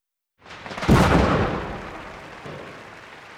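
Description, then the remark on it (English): A big pink firework bursts with a loud, booming crack and a long rumbling decay, then a second, fainter pop follows a moment later. There are no voices. “Look at that big firework! It's pink!”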